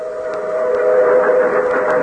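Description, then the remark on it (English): A steady, loud train whistle sound effect holds one sustained, slightly breathy tone for about two seconds, with no talking over it. “Okay, we have something coming out here on that train, don't we?”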